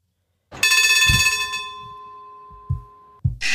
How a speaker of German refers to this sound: Das ist die Hupe von der Straßenbahn. Oh, die Hupe.